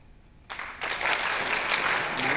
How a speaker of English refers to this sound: I want everybody in the room within 10 seconds to clap at the same time.